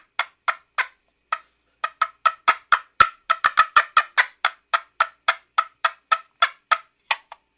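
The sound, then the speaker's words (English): A rapid series of sharp turkey hen clucks and yelps, a cutting call, about two dozen in quick succession, loud, with a brief pause early on before the run speeds up. “You piss a hen off, she's got to come tell you about it. She's got to get her point across. That little rapid clucking, yelping type thing.”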